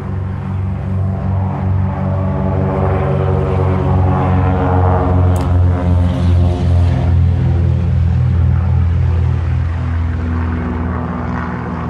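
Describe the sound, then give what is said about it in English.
A steady, loud droning of helicopter rotors and engines, a low throbbing hum with layered harmonic tones that holds constant throughout, with no talking. “Yeah, it's helicopters, and there's also this bleeping going around about Morse code.”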